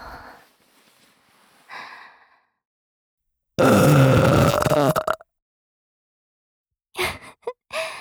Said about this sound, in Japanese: ゲップされるたび腰ガクガクしてんじゃん。